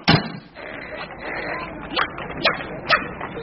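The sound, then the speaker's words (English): A small dog barks and yips in short, sharp bursts: one at the start, then three spaced yaps near the end, over a low background hiss. “A little doggy, ripe for the stuffing.”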